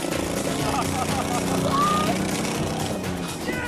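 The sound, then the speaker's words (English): A water-soaked engine misfires badly as the vehicle carves a path out of a mud hole, its rough, uneven rumble sputtering steadily for a few seconds while a voice calls out over the loud, churning noise. “Even though the engine's soaked and is misfiring badly, he manages to carve a path through the crud.”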